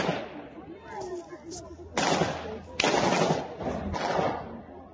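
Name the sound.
gunfire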